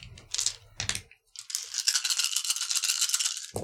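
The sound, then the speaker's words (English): Many dice clatter and rattle together in a cupped hand, a dense, continuous clicking that shakes for a couple of seconds after a brief opening burst, fairly loud. “It's a lot of dice.”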